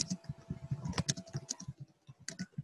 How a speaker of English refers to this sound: Yeah, I was just typing up a comment on the thread